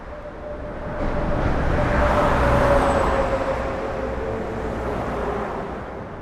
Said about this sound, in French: On est parti vers le nord. En voiture.